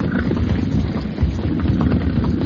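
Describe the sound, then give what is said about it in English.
A boat engine's low, steady rumble drones on without a break, loud, as a boat leaves, with no voices over it. “That was another boat leaving.”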